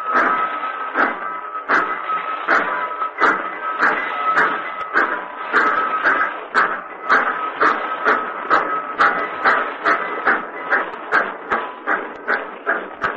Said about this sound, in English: And then the whistle cry. The tolling bell. The great train mounting to its classic monotone again.